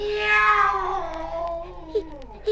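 A single drawn-out cat meow, loud, sliding downward in pitch over a couple of seconds, with a couple of short faint chirps near the end and no talking.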